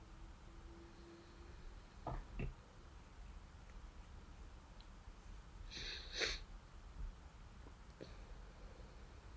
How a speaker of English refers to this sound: I have an almost sneeze. Okay. Excuse me. That might come out later.